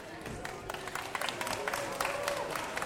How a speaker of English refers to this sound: Fourth graders did a super job. Thank you. Yeah, they really did. Thank you so much. Yeah, another round of applause.